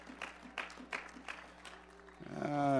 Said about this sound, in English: Go ahead, clap your hands for the Lord. That's all right.